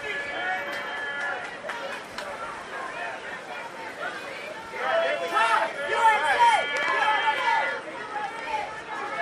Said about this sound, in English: I think a lot of these people just want to see the celebrity troll, but I don't really know. There's a lot of yelling. We'll get closer to the yelling.